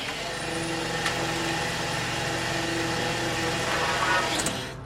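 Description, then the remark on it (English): The engine of a small green fishing boat at sea, twelve miles east of Gloucester, Massachusetts, runs steadily, a continuous low droning hum with a rough mechanical rumble, fairly loud, holding an even level throughout with no voices. “Twelve miles east of Gloucester, Massachusetts, the small green fishing boat Dolores Louise is the only vessel as far as the eye can see.”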